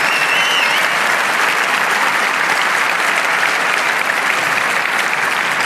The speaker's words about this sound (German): Und jetzt bitte nochmal mindestens genauso viel Applaus für die ganzen Leute, die hier sitzen und uns so krass unterstützen.